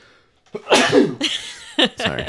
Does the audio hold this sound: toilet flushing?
no